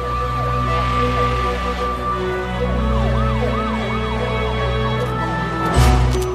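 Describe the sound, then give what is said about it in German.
Police car and ambulance sirens outside a sports hall wail loudly and steadily, their rising and falling tones overlapping above a low rumble of traffic, with a brief burst of noise near the end. “Sofort fielen ihm die Polizeiwagen und der Krankenwagen auf, die vor der Halle standen.”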